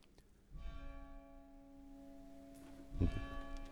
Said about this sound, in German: Und die Glocke gibt ihr Ja dazu.